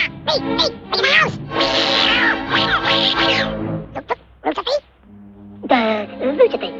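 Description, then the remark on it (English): The character Jack imitates a fierce cat to menace Gus, snarling, yowling and hissing in loud bursts with short pauses, then a final drawn-out growling cry. “Jack pretends to be a fierce cat. He menaces Gus, who moves away and falls backwards off the step.”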